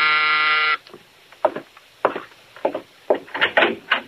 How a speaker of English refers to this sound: Now Mike is in his apartment when the door buzzer sounds.